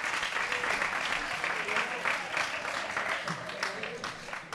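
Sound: group applause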